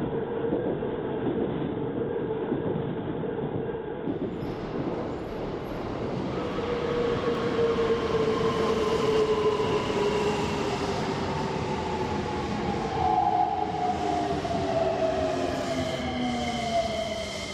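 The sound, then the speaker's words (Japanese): An electric train rumbles steadily along the rails, a dense continuous roar with rising and falling tonal whines as it moves, loud throughout, with no talking. “電車遅れちゃうじゃん。急いでるのに勘弁してくれよ。”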